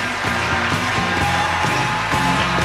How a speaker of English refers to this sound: And still always a huge crowd favorite. As he should be. The Bobby chant goes up.